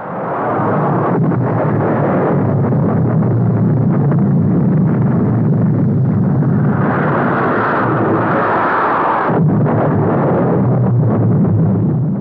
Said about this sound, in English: And so my friend, this professor, and I went to the roof of the building and saw the airplanes coming and then the bombing of the palace.